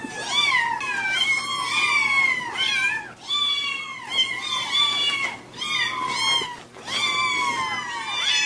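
A pet cat named Kitty meows insistently and repeatedly, a run of loud, drawn-out, wavering cries following one another with barely a pause, with no one talking.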